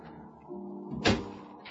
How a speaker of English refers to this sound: Now, we'll step outside. That's it. Close the door.